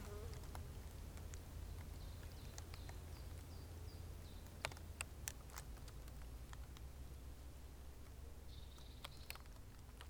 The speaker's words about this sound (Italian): Adesso quello che stavamo pensando di fare era provare a mettere questi telaietti che sono stati incisi con delle mappe di città europee dell'area mediterranea dentro le arnie e vedere se le api ci lavorano sopra.